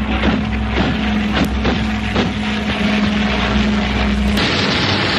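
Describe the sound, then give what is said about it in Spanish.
The motor of a Ukrainian combat drone whines steadily and loudly in flight over the battlefront amid rushing wind noise, broken by several sharp crackling hits as it downs a Russian drone, before the engine tone cuts out abruptly, leaving only a windy hiss. “Los drones, sí, así sonaba un dron ucraniano tumbando a otro ruso en el frente de batalla.”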